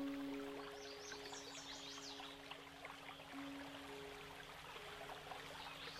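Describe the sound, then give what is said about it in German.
A soft, steady rush of a river flowing through a forest fills the scene at low volume, with faint birdsong chirping above it and a low steady hum underneath. “Wohlig genährt setze ich meinen Weg durch diesen traumhaften Wald fort und komme an einen Fluss. Ich halte kurz inne und lausche dem angenehm sanften Rauschen des Wassers.”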